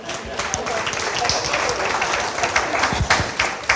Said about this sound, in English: He talks for 2 minutes and gets applause, and I get nothing.